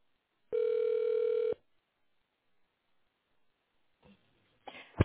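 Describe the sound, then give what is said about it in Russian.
A single steady telephone ringback tone sounds for about a second on a call to the company Raft while waiting for the secretary to answer, a buzzy mid-pitched hum, followed by silence and then a few brief clicks and rustles at the end. “Если вы знаете внутренний номер сотрудника, наберите его в тоновом режиме или дождитесь ответа секретаря.”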